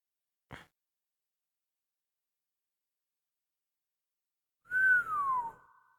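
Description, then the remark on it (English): A brief faint click, then after a long silence a single loud whistled note gliding downward in pitch, its tail echoing away through Mr. Wayne's big, empty home. No one speaks. “Nice echo. Better be careful, or I'm gonna let myself get caught. Big, empty place.”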